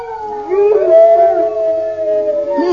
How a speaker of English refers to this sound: Did you hear that? There's a whole pack of them. There's a whole pack of horrible hounds.